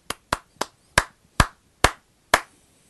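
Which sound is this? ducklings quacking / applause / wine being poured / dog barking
applause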